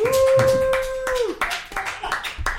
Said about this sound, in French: On a la belle voix de Joseph Roussin également qui est avec nous. On peut l'applaudir, ouais, Joseph, Joseph Roussin.